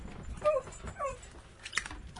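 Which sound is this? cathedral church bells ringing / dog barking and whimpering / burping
dog barking and whimpering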